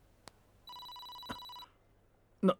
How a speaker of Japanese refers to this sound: なんだ一体、着信？本当の持ち主の関係者か。